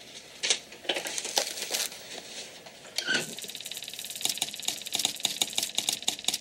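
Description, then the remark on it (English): Harsh, crackling bursts from a spark-gap transmitter in the Titanic's radio room, keyed on and off in an uneven Morse rhythm sending the CQD distress call over a low hum, tightening into quick regular pulses near the end. No one speaks. “That's right, CQD, the distress call.”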